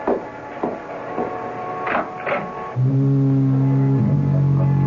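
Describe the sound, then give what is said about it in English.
A foghorn sounds on a misty, foggy evening: a deep, steady blast that holds loudly to the end, its pitch shifting slightly partway through, after a few seconds of irregular clattering thumps. “And don't be frightened if you hear the foghorn.”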